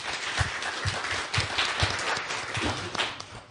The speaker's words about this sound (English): I'd like you to give a round of applause to the two panelists.